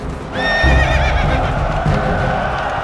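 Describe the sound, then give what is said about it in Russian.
A horse lets out a loud, quavering whinny near the start, over a steady rumble of hoofbeats that keeps going, as the wounded Suvorov mounts his horse and gallops forward. No one speaks. “Суворов раненый-перераненый на коня садится. В белой рубахе на груди крестик, в руке шпага и скачет вперед.”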